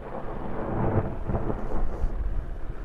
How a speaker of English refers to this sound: Dangling about 150 feet below is a device called a Daisy Bell. Fully loaded, it weighs about 1,000 pounds. The Daisy Bell creates a concussive blast by blending oxygen and hydrogen, then adding a spark that ignites the mix.